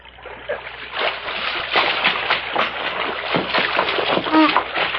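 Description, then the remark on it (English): Water in a creek splashes and churns continuously, with irregular heavy sloshes as a man who has been shot is dragged and lifted out of the water, plus a brief tonal squeak near the end. “Help me put him out of the creek before he drowns.”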